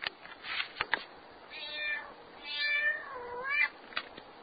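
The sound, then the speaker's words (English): Thin, high-pitched meows of two kittens, a black one and a grey one, in a box of hay with their mother cat Catkin; several overlapping cries rise and fall over a few seconds, with soft rustling and small clicks between them. “But it was a bit of a shock to find the kittens in the box of hay with her, a black kitten and a grey kitten.”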